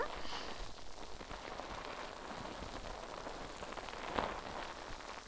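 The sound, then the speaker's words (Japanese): Soft, steady fizzing and crackling of foam bubbles popping during foam face washing, a dense hiss of tiny pops that continues evenly throughout without any voice. “よし、泡洗浄はこのぐらいかな。”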